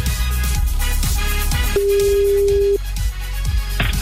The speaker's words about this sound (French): Attention, le téléphone va sonner. Ça n'arrive pas qu'aux autres, c'est peut-être le vôtre. C'est parti.